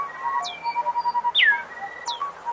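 Bright song of an endangered bird with quick downward-sweeping chirps and high whistled notes, repeated in a lively pattern over a steady background of softer tonal calls, clear.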